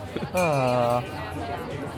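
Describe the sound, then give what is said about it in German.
A single bright bell tone rings for about two-thirds of a second and fades, rising above a steady murmur of crowd chatter that continues afterward, at the Christmas market in Cologne. “Für die, die die Glocke hören, am Kölner Weihnachtsmarkt wird selten Trinkgeld gegeben anscheinend.”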